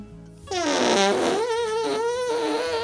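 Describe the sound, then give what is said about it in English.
A long, loud, buzzy fart rings out after a brief quiet moment, its pitch wobbling and sputtering for over two seconds, clear with no voices. “Not only that, the iBoot 2 can also throw the sound of your fart and make it sound like it came from someone else.”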